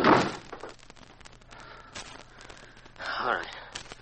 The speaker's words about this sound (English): Then you drag him in and kick the door shut.